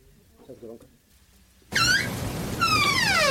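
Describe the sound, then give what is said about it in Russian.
After a quiet start with a faint low murmur, loud squeaky creaking breaks in, like an unoiled door: two drawn-out, wavering squeals over a rough, grinding noise. “Какая-то у вас библиотека бедная, даже двери смазать не можете.”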